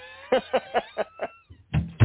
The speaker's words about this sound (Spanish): Y ya en los minutos, en los minutos que nos quedan, bueno, espérate, déjame cerrar la puerta, a ver, que te voy a preguntar algo.